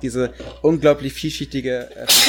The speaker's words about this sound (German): Ja, das war auch ein lauter Nieser.